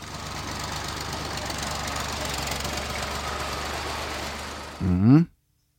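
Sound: tractor engine running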